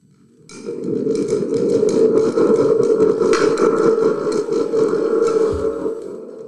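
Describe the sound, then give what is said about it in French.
A rocket liftoff imitated with two thunder boxes: a dense, rattling roar swells in quickly and holds steady for about six seconds, then tapers slightly at the end. No voices. “Et le décollage se faisait avec deux boîtes à tonnerre.”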